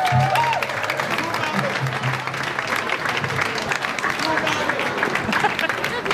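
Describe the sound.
Steady audience applause fills the whole stretch, dense and continuous clapping from a sizable crowd, with a few faint voices and cheers mixed underneath.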